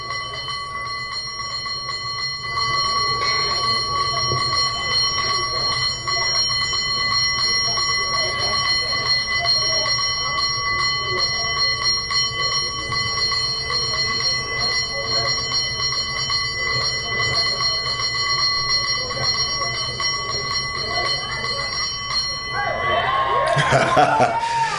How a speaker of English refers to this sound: By the way, to give it even more color, he's playing the bell, which is they've got on a pole